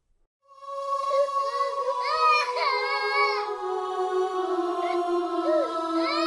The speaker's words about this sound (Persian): بس دخترکم دیگه گریه نکو.